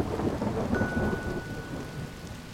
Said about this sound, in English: More rain came down.